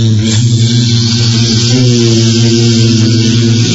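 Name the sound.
swarm of bees buzzing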